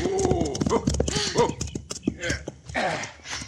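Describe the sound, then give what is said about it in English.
Horse hooves clip-clop in a steady rhythm of sharp knocks as riders' horses, one named Aguila, pound across green countryside and are reined to a halt, with a voice calling out "whoa" over them for much of the time. “As our story opens, this house is the destination of two riders whose swift steeds pound a furious pattern across the verdant countryside.”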